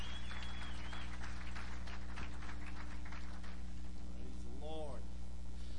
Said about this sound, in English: Let's give this worship team an applause of appreciation tonight.